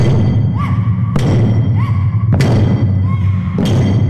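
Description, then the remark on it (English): Twenty Tomodachi Taiko drummers strike twenty taiko drums together three times, bringing their sticks down in unison, each a loud, booming hit about a second apart, with drawn-out voices calling between the beats over a dense, rumbling backdrop. “All 20 bocce come down on 20 drum heads. There's an explosion of sound, and the drummers are on their way.”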